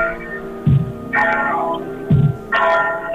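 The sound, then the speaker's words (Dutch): Church bells ring out in a slow, alternating pattern, a low heavy stroke followed by a brighter ringing tone, each note sustaining with a humming resonance between strikes. “Als jullie alvast een klein stukje doorlopen, dan ben je een beetje uit de buurt van de kerkklokken.”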